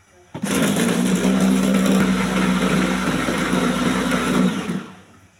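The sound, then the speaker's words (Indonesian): An electric food chopper whirs steadily for about four seconds as it grinds chicken and egg for a sausage mixture, a loud motor hum with a gritty, churning texture, starting abruptly and then winding down. “Baru kita siap chopper ya. Yang lagi nyari chopper seperti ini ada, tenang aja.”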